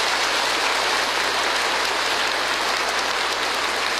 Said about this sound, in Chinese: 诸位护法居士要为今天的法师鼓掌一下啊！